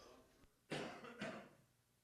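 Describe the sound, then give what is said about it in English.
Two quick coughs in succession during a church worship service, muffled and turned away from the microphone, with no talking around them. “Never to cough into the microphone.”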